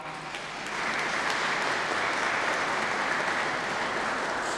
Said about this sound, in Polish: wielkie brawa